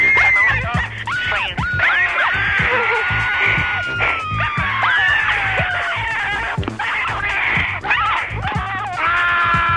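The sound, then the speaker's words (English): A person screams into an answering machine in high, wavering shrieks that rise and fall almost without pause, loud, over a rough, noisy background throughout. “But since I have rung you anyway, I might as well just add a little scream.”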